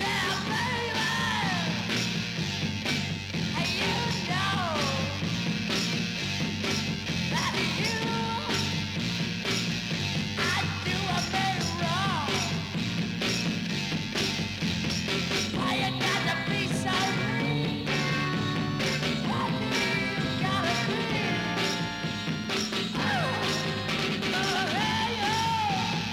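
A loud, raw 1960s US Northwest garage rock song in the pre-psychedelic Northwest sound, with distorted fuzz guitar and a screaming, shouted lead vocal, played at full volume with driving drums throughout, the lyrics hard to make out.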